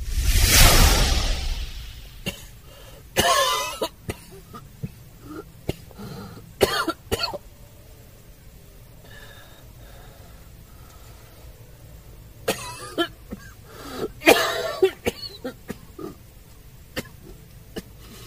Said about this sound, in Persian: سعی کن سرفه نکنی، خون بالا میاری.